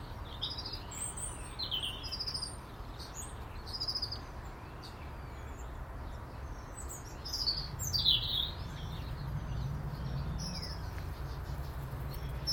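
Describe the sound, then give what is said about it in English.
A blackbird sings in short, scattered bright phrases and chirps over a steady low outdoor rumble with no one talking. “Well, and where have you been, Miss Blackbird? You've been noticeable.”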